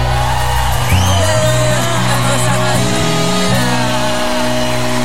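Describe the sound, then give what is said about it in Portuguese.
A large concert crowd cheers and shouts continuously for about five seconds, a dense, loud roar of many voices with individual yells rising above the mass. “Quem gostou faz barulho aí!”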